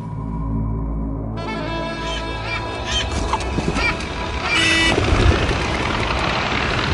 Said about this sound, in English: Oh, why do they do that? I mean, a dead camel is more than enough to feed the lot of them, but no, they must squabble over it first. Stupid birds. The griffon vulture always gives way to the black vulture anyway, so...